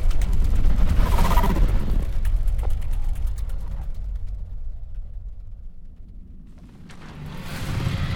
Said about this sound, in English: Do you hear that? It's a drone coming this way.